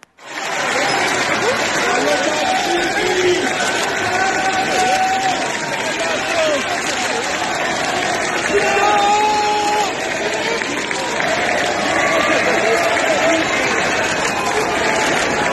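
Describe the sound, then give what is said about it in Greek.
A large crowd applauds steadily as the coffin of the late King is carried from the chapel of Agios Eleftherios to the Metropolitan Cathedral, dense sustained clapping mixed with murmuring voices and scattered shouts, continuing at an even, loud level for the whole stretch. “να πάρουμε εμείς μία γεύση από το χειροκρότημα που ακούστηκε όταν μεταφέρθηκε η Σωρός του Τέος Βασιλιά από το παρεκκλήσι του Αγίου Ελευθερίου στον ναό στη Μητρόπολη.”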